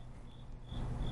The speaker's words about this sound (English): There's a cricket in here.